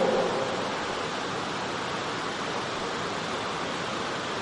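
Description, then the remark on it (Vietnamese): Rain drums steadily on a tin roof on a cool day, a dense, unbroken hiss of countless tiny patters holding an even loudness throughout, with no voices. “Hôm nay mát trời, tiếng mưa lộp độp vào mái tôn như thế này như là tiếng nhạc nó rung, nó ru ngủ cho chúng ta.”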